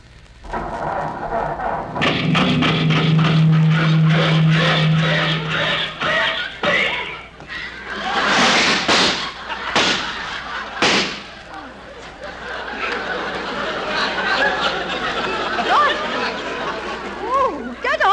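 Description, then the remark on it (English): An old car motor, which Rochester is trying to start at a green light while holding up traffic, coughs and sputters without catching, imitated by a voice: a low droning wheeze, then loud popping bangs and a ragged rattling that trails off. “It's only the motor.”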